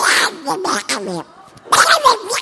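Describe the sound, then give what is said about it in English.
A voice imitates Donald Duck getting mad: raspy, squawking, garbled outbursts in quick angry bursts, a brief pause, then another loud sputtering flurry. “Donald Duck getting mad. Like that.”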